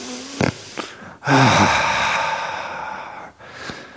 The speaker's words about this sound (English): Just breathing in. Oh, yeah. Breathing out. Oh, that was a good one. Another breathing in. Oh, yeah.